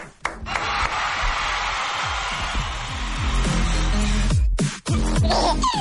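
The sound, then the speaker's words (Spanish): A crowd gives a standing ovation for the BBVA Bancomer foundation, steady dense clapping filling about six seconds with shouts mixed in, briefly dipping near the end before carrying on at full loudness. “Un aplauso, cómo no. De pie. Bravo.”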